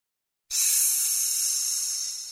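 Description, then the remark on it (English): A steady, sharp hiss begins abruptly after a short silence and holds for about two seconds, bright and airy like a snake hissing, probably made by a voice imitating it. “It's a snake.”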